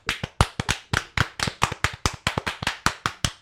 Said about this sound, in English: All right, ready? We're going to clap again. Ready?